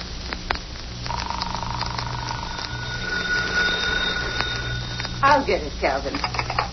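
household object, telephone ringing

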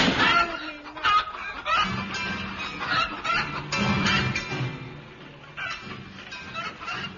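bird, chicken clucking

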